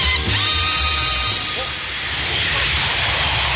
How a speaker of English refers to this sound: I've always loved that jingle. That's an old Pam's jingle called Jet.